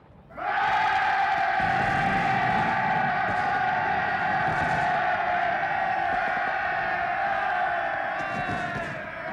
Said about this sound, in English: I'm going to put in some, fireworks and cheering sound effects there, I think.